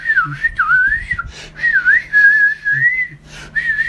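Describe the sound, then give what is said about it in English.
A person loudly whistles in imitation of frantic flute playing: a shrill, wavering, warbling melody in long phrases broken by a few brief gaps, with no talking. “Some very aggressive flute playing in my face.”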